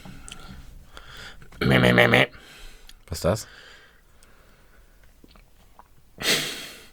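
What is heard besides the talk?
throat clearing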